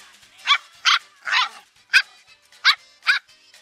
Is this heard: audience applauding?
no